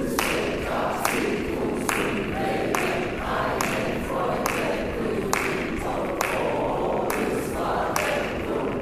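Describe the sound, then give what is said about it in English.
Sharp hand claps keep a steady backbeat, roughly two per second throughout, over a continuous murmur of voices and dense background sound, clapped to show the backbeat to feel at letter G of a Beethoven piece. “Speaking one time, speaking on G, and I will clap what I think you should feel.”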